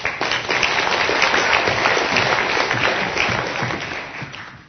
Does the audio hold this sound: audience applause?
yes